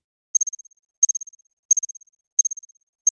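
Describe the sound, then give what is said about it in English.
A reconstructed song of an ancient cricket: short bursts of rapid, high-pitched pulses that fade within each burst, repeating about every two-thirds of a second, with silence between and no voices. “So this is, I don't want to say for sure, but this might be the oldest sound of a living thing ever reconstructed.”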